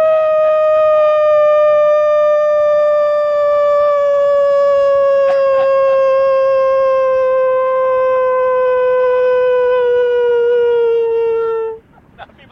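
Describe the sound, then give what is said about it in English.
A person sitting cross-legged in Howell, New Jersey howls like a wolf in one long, loud note held for about twelve seconds, its pitch sliding slowly downward before stopping abruptly. “Give a howl. Ow!”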